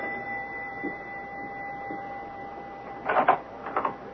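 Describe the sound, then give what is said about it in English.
A doorbell at 91 Pershing Place sounds twice near the end, two short, loud buzzing rings after a faint steady electrical hum. No one speaks. “Listen, the doorbell is ringing.”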